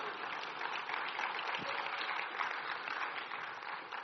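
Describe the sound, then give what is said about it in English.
A church audience applauds the announcements steadily, many hands clapping at once in a dense, even wash of sound that holds at a constant level for several seconds without any voices. “You could clap for that too.”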